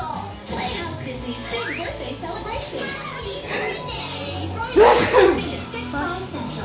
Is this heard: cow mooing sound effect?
no